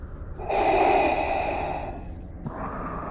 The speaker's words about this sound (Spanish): este archivo habla de una de las características más especiales de Vader: su mítica respiración.